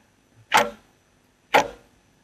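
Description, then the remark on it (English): Two crisp, resonant ticks from layered clocks land exactly a second apart, each with a short woody decay. They're clear, with quiet between them and nobody speaking. “And then I might add another clock on top that gives you a real tick-tock.”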